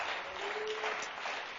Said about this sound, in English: Clap your hands to the Lord one more time and you can be seated.